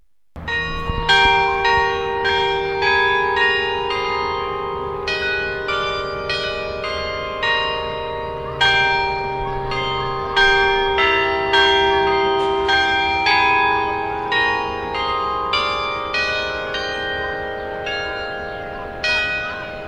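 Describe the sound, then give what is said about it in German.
A bell tower rings out a slow hymn melody as its hourly chime, each struck note ringing with long overlapping resonance, played steadily with no voices present. “ertönt zurzeit in stündlichem Abstand Dona Nobis Pacem”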